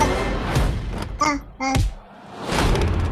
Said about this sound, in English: Someone's locked the door.